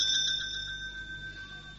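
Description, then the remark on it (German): A small hand bell rings out clearly on its own, a few quick shaken strikes at first, then a bright, sustained metallic tone that slowly fades. “sondern das ist eine Glocke, die dadurch zustande gekommen ist, dass viele Menschen geglaubt haben, dass sich in dieser Welt etwas ändert”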